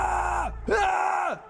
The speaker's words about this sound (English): Everybody was screaming.